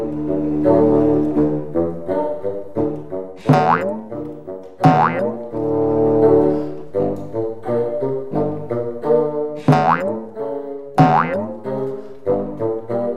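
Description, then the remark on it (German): Cartoonish troll footsteps: a steady plodding rhythm of low, bouncy musical thumps, broken now and then by springy upward boing-like swoops, playing alone without any talking. “Zur Erinnerung, so hören sich Trollschritte an.”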